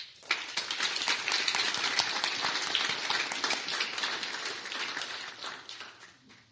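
A crowd applauds a new teacher, many hands clapping in a dense, even patter that starts abruptly and holds at a moderate level for several seconds before tapering slightly.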